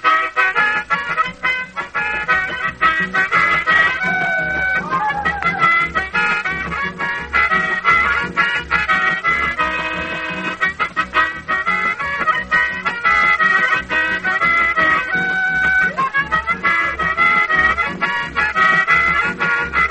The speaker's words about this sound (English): bring your harmonica up here